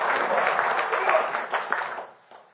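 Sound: round of applause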